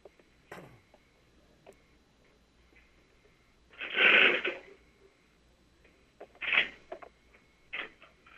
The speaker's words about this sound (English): But I'm going to go pick up a phone, and you'll hear some noise while the phone is connected to a switching equipment, and then I'm going to dial some numbers, and then you should hear another phone ring.